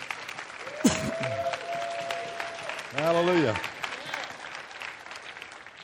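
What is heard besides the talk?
audience applause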